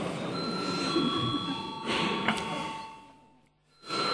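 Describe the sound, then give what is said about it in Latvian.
A parliamentary session bell rings before a vote on a bill, a steady, high electronic tone that holds for several seconds, briefly drops away, then sounds again at the end, with faint breathy background noise and no speech. “Lūdzu zvanu.”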